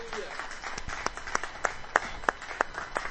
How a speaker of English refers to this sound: Well, it's certainly good to see you all here today, and welcome to our first-time visitors. Why don't you just give a round of applause for our first-time visitors?